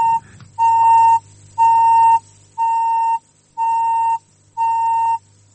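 Radio time signal pips: five loud, steady electronic beeps of equal pitch, evenly spaced one second apart, over a faint low hum, with no one speaking.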